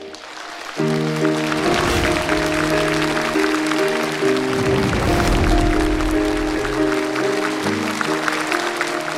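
Sustained audience applause welcoming a reader and his mother, beginning abruptly after a short pause and continuing steadily to the end, a dense clapping wash over sustained, gently shifting music.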